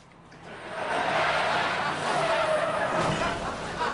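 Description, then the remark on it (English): A car tears away, seen in traffic camera footage after its driver receives a text, with tires squealing and skidding, a loud, sustained screech over engine roar that swells within the first second and holds steady to the end. “I'd like to show traffic camera footage of Mr. Daly's car the moment he received Ms. Luna's text”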